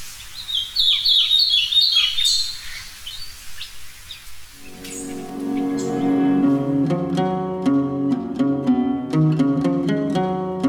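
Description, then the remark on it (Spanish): A small, uncommon resident bird that feeds on insects taken in flight or among foliage, and ranges from southern Sonora in Mexico to northern Nicaragua, sings a quick series of high, thin chirping notes for a few seconds, clear, before plucked instrumental music comes in and carries on to the end. “Es poco común y se alimenta de insectos que toma al vuelo o entre el follaje. Su condición es residente.”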